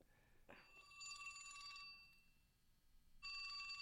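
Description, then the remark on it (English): A flip phone rings with a bright, electronic trilling tone in two bursts, the first running for about a second and a half and the second starting near the end, with no one speaking. “Speaking of broadcasting, there's my phone.”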